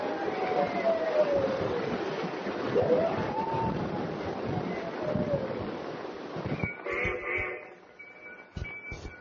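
A long, wavering howl rises and falls over a dense rumbling background, then gives way to steadier droning tones near the end.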